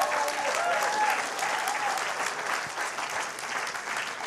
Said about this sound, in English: Yes, let's give the Lord a round of applause. Come on.